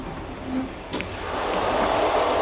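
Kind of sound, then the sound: vehicle, moving train carriage rumble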